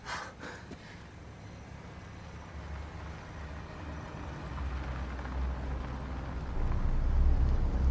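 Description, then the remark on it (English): A car approaches on a dark road, its low engine rumble steadily growing louder over several seconds against a quiet outdoor background, with no talking. “Hey, car.”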